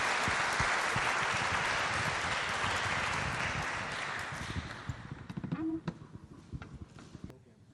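An audience claps steadily in a dense, full round of applause that gradually thins out, leaving scattered individual claps and a few faint voices toward the end.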